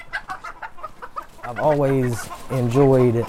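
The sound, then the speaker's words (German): Chickens in an enclosure beside a house and small vegetable garden cluck in a quick series of short pecking notes, followed by two longer, louder drawn-out cackles, with no one talking. “Eine Sau grunzt. Hühner gackern.”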